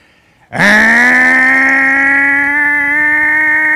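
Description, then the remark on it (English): A person vocally imitates a car, holding one loud, buzzy, steady-pitched tone that starts suddenly after a brief silence, scoops up slightly, then drones on for over three seconds. “Well, I'm going to give you a hint. This is a car. So tell me, please, if you've ever recognized this sound.”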